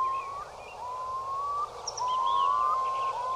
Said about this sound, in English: We have a little sound of the curlew call now. It's a very beautiful, haunting sound.